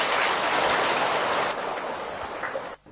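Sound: applause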